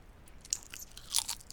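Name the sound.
chewing crunchy food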